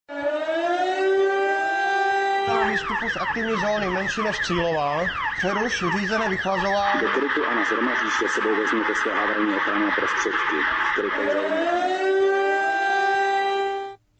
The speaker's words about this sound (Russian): Звук главной аварийной сирены непрерывный. Это означает, что тревога учебная.